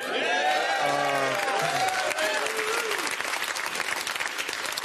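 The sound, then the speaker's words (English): A maskless studio audience applauds and cheers loudly, with sustained clapping and excited whoops and shouts rising over it in the first couple of seconds before settling into steady applause. “Such a happy, maskless crowd we have here.”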